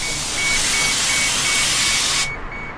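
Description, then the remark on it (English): A bus kneels, lowering itself so the wheelchair ramp can come out, with a loud, steady pneumatic hiss of escaping air that holds for about two seconds and then cuts off abruptly, leaving a faint background hum. No one speaks. “If you wanted a description, and as it would have it, they just lowered the bus so that the ramp would come out, and it's just stuck in midair, but he'll fix it.”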